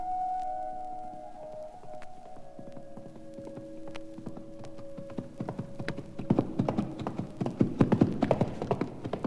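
A horse's hooves clip-clop in a steady rhythm as it is ridden up a high mountain slope, growing louder and busier as they approach, over a low sustained tonal drone that fades partway through.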